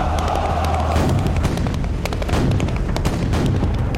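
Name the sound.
cannon fire and explosions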